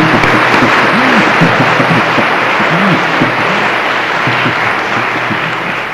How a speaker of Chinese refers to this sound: 咁啊，帮我翻译咧就好困难嘅，所以大家要即系俾林牧师鼓掌，即系多谢佢。